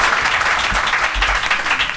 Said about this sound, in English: please applaud now. There you have it, folks. There you have it.